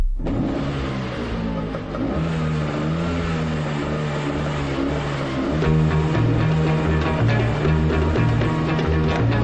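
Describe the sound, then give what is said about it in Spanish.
A motorcycle engine revs loudly and continuously at the start of an upbeat dance song about wanting a motorcycle, its droning pitch rising and shifting in steps throughout, with no voices present. “Esta es, esto que escuchamos, esta música que escuchamos es tu sintonía, ¿verdad?”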